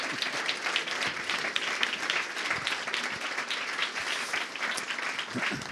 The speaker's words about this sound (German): Vielen lieben Dank und auch einen donnernden Applaus